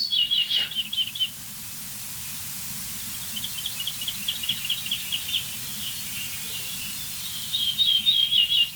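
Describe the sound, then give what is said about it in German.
An ortolan bunting sings three phrases of rapid, evenly repeated high notes, each phrase a short ringing series, set against a steady background hiss and a low outdoor rumble. “Ortolan hieß früher auch Gartenammer. So häufig war dieser Vogel.”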